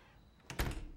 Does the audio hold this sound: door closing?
yes